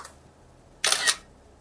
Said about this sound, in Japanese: 自動的にシャッターが切れて、 処理中。